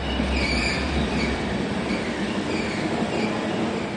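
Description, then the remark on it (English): A train carrying two Syrian refugee brothers rolls steadily along the rails with a constant loud rumble, while a thin, high-pitched metallic squeal from the wheels hangs over the noise throughout. No one speaks. “The brothers' future will be decided on this train.”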